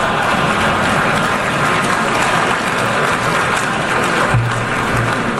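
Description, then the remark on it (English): A crowd applauds the president's reaction during his speech: a dense, sustained wash of many hands clapping at an even, loud level for several seconds, with no voices rising above it. “I think they're applauding his reaction, which actually, he almost made fun of himself.”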